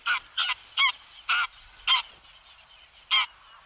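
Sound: greylag geese honking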